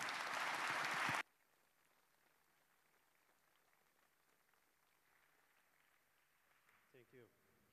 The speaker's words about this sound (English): A big round of applause to them.